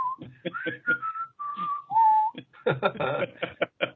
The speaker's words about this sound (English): I heard you whistling away.